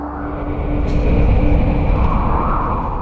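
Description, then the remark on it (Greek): Strong wind roars as it blows hard at a man, trying to take off his clothes, in a loud, steady rush of deep, rumbling noise, swelling stronger after the first second and holding with a gusty, turbulent texture. “Τι αέρας τρελός βγήκε τώρα. Ο άνεμος φυσήξε πιο δυνατά.”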